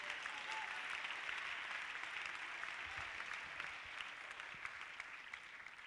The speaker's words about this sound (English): Hallelujah. Clap your hands to the Lord and give me praise.